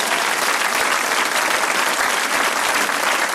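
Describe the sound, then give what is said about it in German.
An audience bursts into sustained applause, a dense, steady wash of many hands clapping at once, loud and unbroken for the whole stretch with no voices standing out. “Ja, mal einen riesen Applaus, bitte.”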